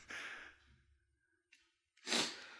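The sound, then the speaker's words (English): A radio presenter takes a breathy intake of air, a brief pause with a small catch, then one loud, explosive sneeze with a sharp, hissing burst that quickly fades. No one speaks. “I'm going to sneeze.”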